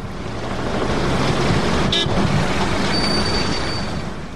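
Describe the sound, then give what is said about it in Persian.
A car rushes past at speed on a dusty road in Kabul, blowing up the road dust, its broad, gritty roar swelling gently and easing off over a few seconds, with a short sharp tick partway through and no voices. “دیگه دریورا تیز می دوانن که کتی موتراشون سرکا را پاک کننه.”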